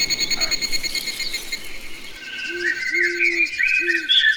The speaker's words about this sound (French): Au village Nkeni, sur le plateau de Bateke, le silence règne. Ici, c'est la nature qui s'exprime. Les oiseaux chantent, la poule picote et les vents caressent la peau.